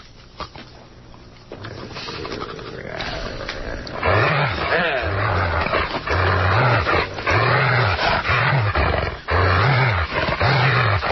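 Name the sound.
dog vocalizing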